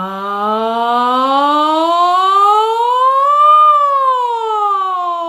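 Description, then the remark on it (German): A single voice sings one long sustained tone on the syllable "ja", starting low, gliding slowly upward in pitch and then sliding back down, imitating a siren as a vocal exercise. It is steady and loud, with no other sounds. “Ich atme tief in den Bauch und dann auf einem Ja setze ich unten an und gehe nach oben und wieder zurück. Und ich schwinge mich so richtig durch alle Register.”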